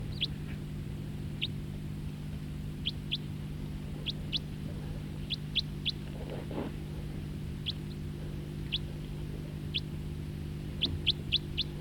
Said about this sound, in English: Now that bird flew to a different perch. Song flight of the bird that was calling.